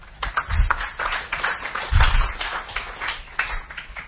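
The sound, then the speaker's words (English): An audience applauds steadily for about four seconds to welcome a guest, Daniel Silk, a dense crackle of many hands clapping at once, with a couple of low thumps mixed in and no voices over it. “So I'd like a round of applause as we welcome Mr. Daniel Silk.”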